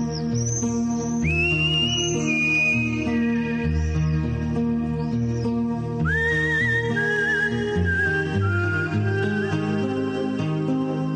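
A person whistles a gliding, sustained melody over a full instrumental music backing, the clear high tones rising and holding across the whole passage at a steady, moderately loud level.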